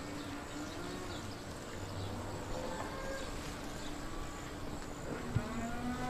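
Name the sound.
cow mooing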